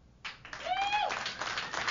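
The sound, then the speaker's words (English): Audience applause, given in answer to a question about who gets their music from CDs, breaks out suddenly and carries on as a dense, steady wash of clapping, with a brief rising whoop or whistle standing out over it early on. “Let me just, by a sound of applause, how many of you get your music today from CDs?”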